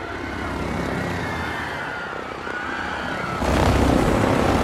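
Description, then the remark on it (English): A helicopter's engine roars steadily with a wavering, whining pitch, then surges suddenly louder and rougher near the end as it goes into a tailspin after Bond grabs the pilot, over a crowded square. No voices. “Bond grabs the pilot, sending the aircraft into a tailspin.”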